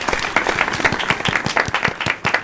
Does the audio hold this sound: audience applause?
yes